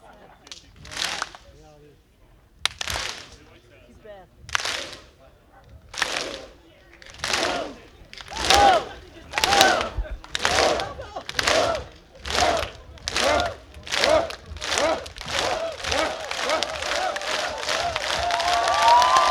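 A crowd at the Vendée Club 2016, broadcast on Facebook Live, claps together in unison, beginning with slow, widely spaced loud claps that steadily quicken until they blur into continuous applause and cheering.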